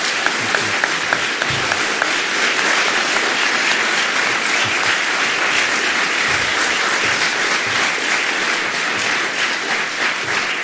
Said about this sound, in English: I would like to say to both of our candidates, I really appreciate and honor the work you do, and I would like the audience to give them a nice round of applause.